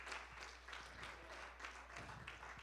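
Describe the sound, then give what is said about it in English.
An audience claps hands in praise during a worship service, sustained, dense applause of many people clapping together that continues steadily throughout, with a faint steady hum underneath. “Would somebody give him a hand clap of praise in this house today?”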